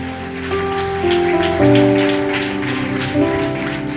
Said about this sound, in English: Let's give Jesus a big clap offering.